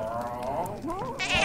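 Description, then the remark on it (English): A human voice imitates a giant cat spitting up a tiny 'blemish', with wavering, bleat-like gagging sounds followed by a short, harsh, noisy retch at the end, fairly loud. “Oh, it's spitting up a blemish.”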